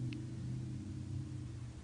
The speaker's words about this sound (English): Car.